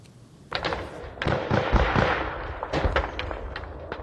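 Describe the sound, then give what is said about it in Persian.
Bursts of gunfire and artillery shots on the border between Tajikistan and Kyrgyzstan, a rapid, irregular string of sharp cracking bangs over a steady rumbling wash of noise, with no voices. “صدای تیر و توپ در سرحد تاجیکستان و قرغیزستان دوباره بلند شد.”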